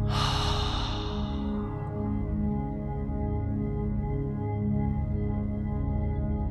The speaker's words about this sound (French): Prends une longue inspiration et une longue expiration. Inspire en gonflant le ventre et expire longuement par la bouche.